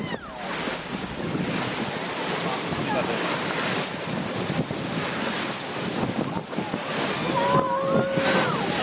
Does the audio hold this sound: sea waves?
yes